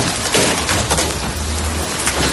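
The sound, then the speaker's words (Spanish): Hailstones about 10 centimetres across pound the ground, cars and streets of La Bisbal d'Empordà, Girona, Catalonia, during a storm in a loud, dense, unbroken clatter, with sharper individual impacts cracking like gunshots over a low rumble. No voices. “Es el sonido de la espectacular granizada, auténticas pelotas de hielo de unos 10 centímetros que al impactar sobre el suelo, los coches y las calles de la localidad suenan como si fueran disparos.”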